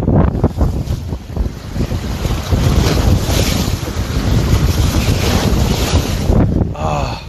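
Steady roar of sea waves mixed with gusty wind buffeting the microphone, loud, a continuous rushing wash with surging swells and no voices.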